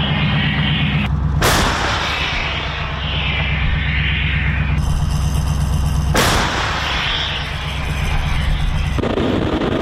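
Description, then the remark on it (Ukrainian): Artillery fires twice, about five seconds apart. Each shot is a loud, sharp boom over a steady low rumble that keeps on between the blasts, with no voices. “Ми засікали виїзд гармати, це саме більше, це з Норхи, там проїхати кілометр і відпрацювати це 11-12 минут.”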